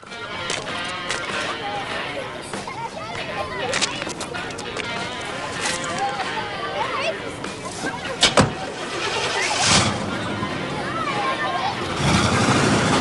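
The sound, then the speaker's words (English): A white saloon car's engine starts up and the car pulls away, rumbling steadily at moderate volume, while muffled voices and busy background sound continue throughout. “Fraker and one of his punks follow Kersey in a car as he pulls out.”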